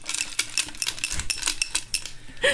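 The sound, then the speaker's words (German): Small metal charms on a cup jingle as it is shaken (a white pompom on golden carabiners, a dreamcatcher and a rainbow hang from it), a quick, irregular run of bright, tinkling clinks lasting a couple of seconds, with no voices. “Und dann ist da ein weißer Puschel an goldenen Karabinern dran.”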